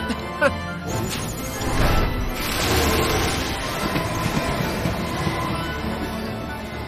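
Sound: train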